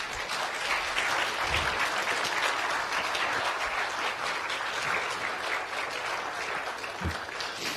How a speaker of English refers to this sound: Please give these guys a great round of applause.